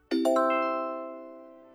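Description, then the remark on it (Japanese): A bright electronic chime signaling the time to answer in a language pronunciation drill strikes a few quick, stacked tones that ring out together and slowly fade, heard alone with no speech. “のチャイムの後に、車、船、飛行機のように標準語で指示しますので、のチャイムの後に指示した標準語と対応するうくむにの単語を使って回答しましょう。”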